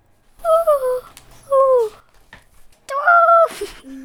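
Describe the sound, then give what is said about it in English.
A child's voice imitates an owl with three drawn-out hoots, the first two close together and the last one longer and louder after a brief pause. “Can you please make a sound of an owl?”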